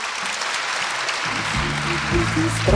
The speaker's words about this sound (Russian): Дорогие ребята, спускайтесь, пожалуйста, в зал, занимайте свои места, а мы давайте поддержим их нашими аплодисментами.